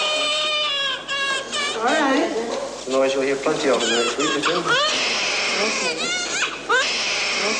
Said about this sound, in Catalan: Així bramava, en acabar de néixer, la primera bebè probeta de la història.